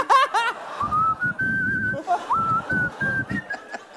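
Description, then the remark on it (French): A person whistles a slow, steady melody with long held notes and gentle pitch shifts, clear, over soft rhythmic rustling or chuckling sounds in the background. “a entendu un bruit de sifflement. Le été début de …”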